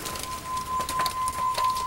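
Steady rain patters, with irregular soft taps and splashes over a constant hiss of drops striking leaves. No one speaks.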